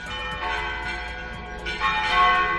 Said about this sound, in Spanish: Es el tañido de las campanas de la iglesia de San Ginés, tan cercana. Sonaba a las 6 y 10 de la tarde de ayer jueves.